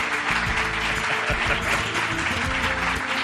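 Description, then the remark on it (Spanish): A crowd claps steadily in dense, sustained, loud applause, filling the whole stretch with a continuous patter of many hands, with some faint voices mixed in underneath; the applause is for the president who hosted them. “Yo creo que se merece un aplauso, sí.”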